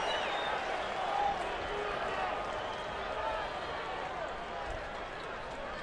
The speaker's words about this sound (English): Duvall, 2-0 pitch. And that is a strike at the very top of the zone. And he gets a sarcastic cheer from the crowd here at Oracle Park.